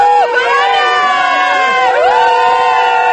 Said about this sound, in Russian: Вот и Новый год. Под криками открывают шампанское. «С Новым годом!» — кричат везде.